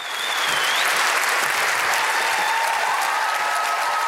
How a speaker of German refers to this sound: Standing Ovations und Jubelrufe für eine Autorin. Chimamanda Ngozi Adichie betritt die Bühne.